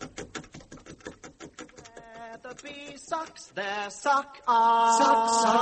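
Quick, steady chipping with a chisel and mallet at a door to get it open, sharp taps in a fast run, is soon joined and then drowned out by louder, sustained tonal sounds.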